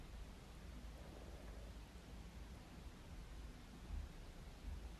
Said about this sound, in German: Ich beobachte gerade den Regen.